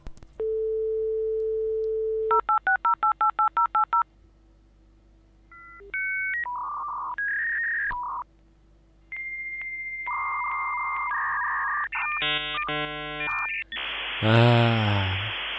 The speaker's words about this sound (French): Alors, Internet, dans les années 90, c'était quoi? Eh ben, on avait besoin d'un modem pour se connecter, ouais, et ça faisait ça.